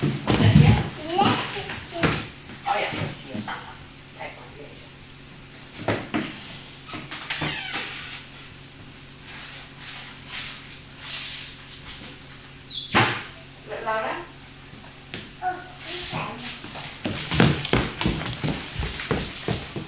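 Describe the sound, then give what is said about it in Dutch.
A cupboard opens and someone rummages through it looking for an item, with repeated knocks, clatters and shuffling of items at an uneven pace, while a person speaks now and then. “Misschien heb ik het hier in de kast liggen. Wacht maar even.”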